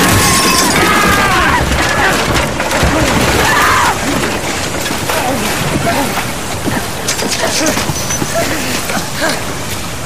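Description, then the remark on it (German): A loud, sustained crash of a wooden boat smashing against jagged rocks, with splintering, cracking wood over churning, whipped-up water and brief shouted cries in the mix; the impact throws the four occupants from the breaking boat into the water. “Die Wucht des Aufpralls schleuderte die vier Insassen aus dem zerberstenden Kahn und ließ sie wie Steine ins aufgepeitschte Wasser fallen.”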